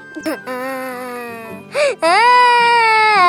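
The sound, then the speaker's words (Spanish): A boy cries loudly as he runs away: a long, quavering wail, a brief choked sob, then another sustained high wail that carries to the end. “El niño sale corriendo y llorando.”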